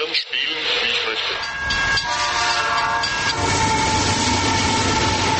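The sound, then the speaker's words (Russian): Steady rumble of a model train running on its model railway track, with rattling wheels and a few whistle-like tonal notes over a continuous loud mechanical drone. “Вблизи модельной дороги грохот поездов такой же, как и на настоящей железнодорожной станции.”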